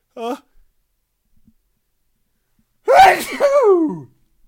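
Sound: a person sneezing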